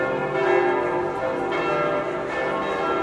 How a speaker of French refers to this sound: Voilà, et tous les manifestants qui passent devant l'église, là, qui défilent devant l'église au son des cloches, du carillon.